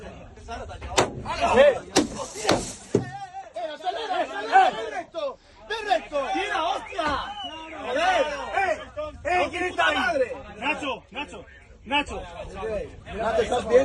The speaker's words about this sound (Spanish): Esos impactos que han escuchado eran las piedras que impactaban contra los cristales del autobús y alguno de ellos incluso se rompió, pues provocando escenas de muchísimo miedo, evidentemente, para los jugadores de UCAM Murcia.